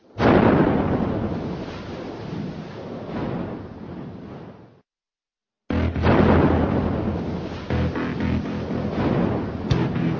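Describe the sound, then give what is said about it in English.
A loud nail bomb explosion in Brixton, South London, roars and rumbles before cutting to silence, then a second heavy blast erupts and keeps rumbling with crackling debris. No voices. “A terrifying explosion has devastated the heart of Brixton in London.”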